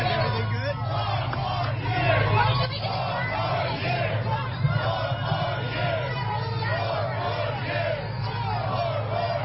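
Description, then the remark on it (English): A crowd of tens of thousands outdoors in Harlem, New York City, at 4 p.m. fills the air with a steady, dense roar of many voices, cheering Donald Trump, with scattered shouts and cheers rising from the mass and a low rumble of city traffic underneath throughout. “a crowd broke out. And here's what it sounded like”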